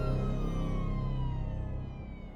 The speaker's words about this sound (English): Behind us, outside the school, the sound of approaching sirens was like music to my ears.